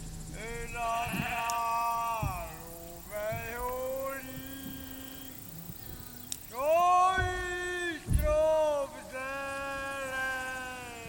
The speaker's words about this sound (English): Of course, there are lots of sheep. My grandfather used to have sheep.